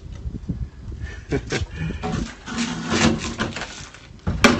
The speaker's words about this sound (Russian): Так. Какая-то дверь недушевная. Сейчас мы ее закроем. Оп.